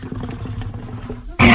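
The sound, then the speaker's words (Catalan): A deep, rumbling growl builds low and steady, then bursts into a loud, harsh roar near the end, close and intense, with no talking. “Això és una moto, no? No. És el Yeti.”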